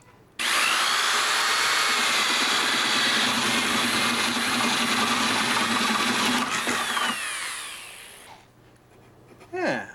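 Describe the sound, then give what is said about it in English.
A power tool cuts a small round entrance hole for wrens in a birdhouse, with a loud, steady, high-pitched grinding whine for about seven seconds, then winds down and fades, followed by a short clunk at the end. “So let's just cut out a small round hole that'll let the wrens in, but keep the squirrels and bigger birds out.”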